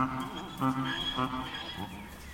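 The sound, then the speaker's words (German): A mule, a cross of a mare and a male donkey, that has left its herd brays from the other end of a gravel yard in a rough, harmonic, mournful cry that rises and falls in several pulsing bursts, moderately loud over a steady background murmur. “Ein Ausgestoßener entfernt sich von der Herde und stößt vom anderen Ende des Kiesplatzes einen wehmütigen Schrei aus.”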